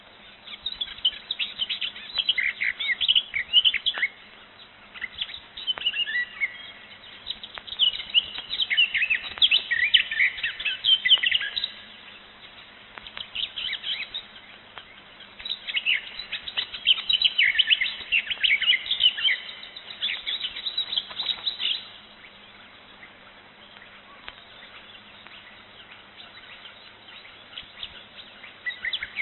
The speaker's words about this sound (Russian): Это поет садовая Славка.